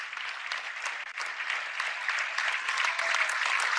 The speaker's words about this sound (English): And out of the ball game for Amherst is going to be Braden Eckout. Also, Trey Tobenheim will step out, and they'll get a nice round of applause.